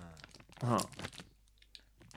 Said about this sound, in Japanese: 全体の、なんだろう、袋の中、 プラスチックというか、その紙じゃない感じの音がしない。まあ、あえてこれをこう握ったりして音を出してるんだけど、 なんかあのヨーグレットとかハイレモンとか ああいう感じもしますけどね。